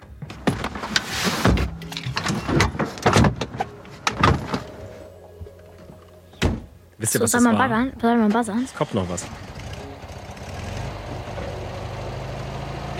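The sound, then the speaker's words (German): Bags being loaded into a car: a series of clunks, thuds and door slams, then an engine starts, revs and settles into a steady rumble as the car drives off. Voices talk briefly. “Ihr hört ein Geräusch und jetzt war es Auto packen und losfahren.”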